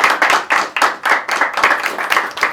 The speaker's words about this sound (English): Give it an applause